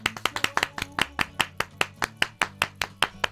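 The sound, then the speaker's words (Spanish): Applause in a steady, rhythmic beat of sharp hand claps, roughly seventeen in about three seconds, evenly paced and moderately loud over a faint low hum, with no voices. “El aplauso del día, a lo mejor quizás se lo venga, merece, ¿no?”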